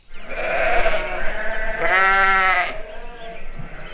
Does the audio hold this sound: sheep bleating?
yes